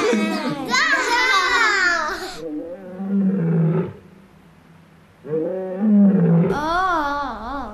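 A lion roars loudly in two long, rumbling bursts split by a brief quiet gap, each rising then trailing into lower growls.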